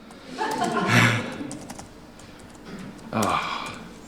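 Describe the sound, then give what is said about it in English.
Steady clicking of computer keyboard typing, moderately loud, scattered keystrokes running throughout, with a couple of brief murmured vocal sounds rising over it. “Oh, keyboards.”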